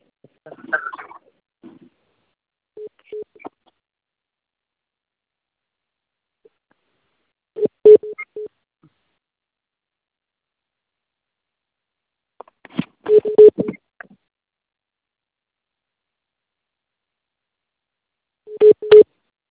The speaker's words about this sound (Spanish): Ah, bueno, pero denme un segundo, déjenme le marco